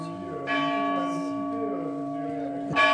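The recently returned bell of the Mouret chapel in Terrasson, France, rung by pulling a rope, rings out with two clear strokes, its rich metallic hum sustaining loudly between them, with no voices.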